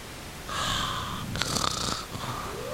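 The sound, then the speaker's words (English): A person imitates a growl with a strained, snore-like throat sound, starting as a droning rumble and turning into a harsher, gritty rasp for about a second and a half, with no speech. “That's me trying to growl.”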